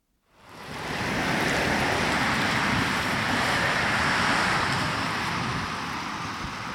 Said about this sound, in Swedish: Där susar ett X2000 tåg förbi järnvägsstationen i Hör.